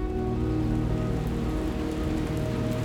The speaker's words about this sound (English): It began raining sometime while we were setting up.